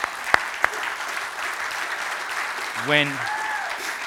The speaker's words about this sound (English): You have had a staff that has carried extra weight for a long time. And so if you get, go ahead and give them applause.